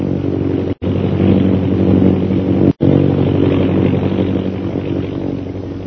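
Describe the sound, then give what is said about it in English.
A steady, droning engine of an airplane carrying Royal Air Force officers Captain Carstairs and Lieutenant Rogers as it approaches Dumba Pass hums with a low, buzzing rumble, loud and unbroken except for two brief dropouts into silence early on. No one speaks. “Meanwhile, far to the south of Bhutan's camp, an airplane carrying Captain Carstairs and Lieutenant Rogers of the Royal Air Force approaches Dumba Pass.”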